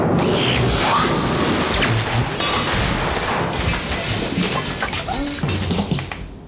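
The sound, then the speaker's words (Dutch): Heavy rain pours down steadily in a dense, loud hiss during a thunderstorm, with deep rumbling thunder rolling underneath and a lightning strike landing with a booming clap. “Nauwelijks had hij de knop omgedraaid of de bliksem sloeg met een dreunende slag in de afloop.”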